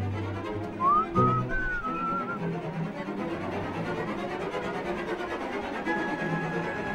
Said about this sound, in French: Il chante bien. Il siffle bien aussi.